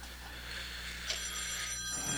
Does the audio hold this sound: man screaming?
no